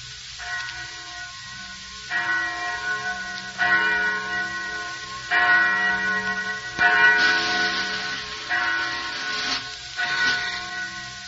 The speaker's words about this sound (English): Listen. Do you hear something? Just a bell. Must be 11 o'clock. Yes. Just a bell. Just a bell.